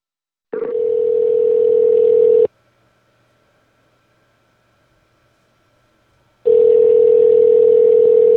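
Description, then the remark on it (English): After a telephone call is disconnected, a steady, mid-pitched dial tone drones loudly for about two seconds, cuts to near silence for roughly four seconds, then returns just as loud. No one speaks. “I think we got disconnected.”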